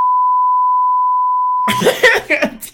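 A steady, mid-pitched censor beep bleeping out spoken words holds for about a second and a half, then cuts into a burst of loud, garbled speech-like noise.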